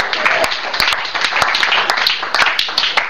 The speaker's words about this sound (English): Let's give Jesus a clap offering.